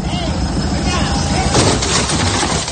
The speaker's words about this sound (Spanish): Pero es que esta gente, ni corta ni perezosa, acelera y se lleva por delante la puerta de este coche. Mira, vamos a escuchar el momento.